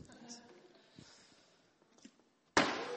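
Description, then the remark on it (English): Faint voices murmur for a couple of seconds, then a plastic bottle, thrown in a bottle-flip attempt to land it on the table, hits a table with a sudden loud hollow thud, its rattle filling the last half-second. “You try and flip it, like you throw it and you want to land it on the table, okay?”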